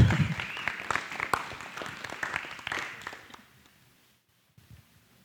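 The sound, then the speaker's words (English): An audience applauds with dense, overlapping claps that fade out after about three seconds, followed by near silence with a few faint thumps. “clap.”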